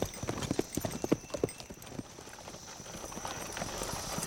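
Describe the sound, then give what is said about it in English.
Horse hooves clip-clop in a quick, uneven rhythm, sharp at first, then thinning out and fading into a faint background hiss as a rider wheels the horse around and rides back to the wagons. “He stared at it a couple of seconds longer, then wheeled his horse and went back to the wagons.”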